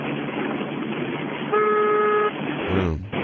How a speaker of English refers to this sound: I didn't want him to ring the horn. That's why that's why I said it would be dangerous.